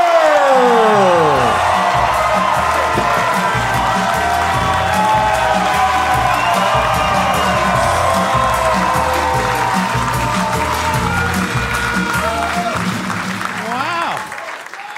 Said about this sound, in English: Are you guys ready for your first guest here on the Dr. Phil Live Show? Make some noise, Comedy Store. I think you can do it. Give it up right now. Make it loud for the one and only Bill Burr.